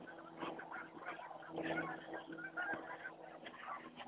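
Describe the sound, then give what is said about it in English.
A dense chorus of about six skeins of geese calling at once overhead, overlapping honks and cackles from many birds, continuous and busy, with no talking. “There's about six different skeins of geese all mixing it up, trying to sort themselves out up there.”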